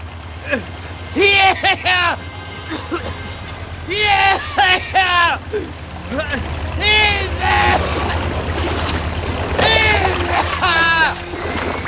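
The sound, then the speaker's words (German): A steady low police boat engine drones on the water throughout as the boat approaches, while voices call out loudly over it in short bursts. “Eine Polizeiboot.”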